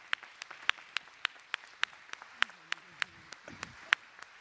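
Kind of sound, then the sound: crowd, audience applauding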